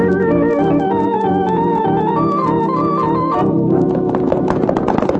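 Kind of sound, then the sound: animal, horses' hooves galloping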